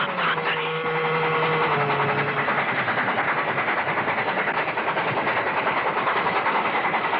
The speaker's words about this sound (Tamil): ரயில் நெருங்கிக் கொண்டிருந்தது.